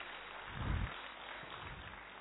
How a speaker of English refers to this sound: He is the professor of orthopedics, NMCH, Patna. Can we just welcome him with a round of applause?